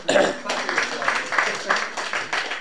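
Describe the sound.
An audience at a Rope-a-Dope chapbook poetry reading applauds a chapbook author in a dense, steady patter of many hands for a couple of seconds, moderately loud, with a murmur of voices mixed into the clapping.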